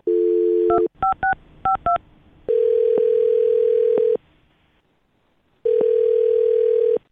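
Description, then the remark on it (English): A telephone dial tone hums briefly, then a quick run of keypad beeps, followed by two long ringing tones separated by a pause of silence, clear, as the Brook and Jubal in the Morning radio show phones a man. “So we're about to get him on the phone and find out what happened.”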